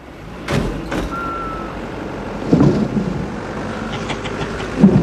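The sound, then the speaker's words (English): Three police vans with flashing blue lights and six unmarked police cars rumble and pull out of a prison yard, engines droning steadily with a few sharp clunks and a brief high tone, no voices. “Surrounded by six unmarked police cars, three vans with flashing blue lights pull out of the prison yard.”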